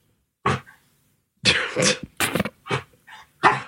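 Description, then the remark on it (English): A small dog makes a series of short, husky grunts and a soft whine, several bursts in an uneven rhythm, fairly loud, with no talking over them. “That's not even a bark, Daisy. Come on. Daisy, it's a grunt.”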